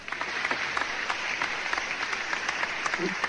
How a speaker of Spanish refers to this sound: Sí, ¿con qué lo vamos a despedir al gran Alberto Favero? Con este aplauso.